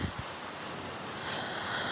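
Steady rain falls in a constant, even hiss with fine crackling texture, holding at a moderate level throughout with no voices.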